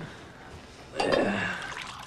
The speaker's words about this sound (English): pours himself a coffee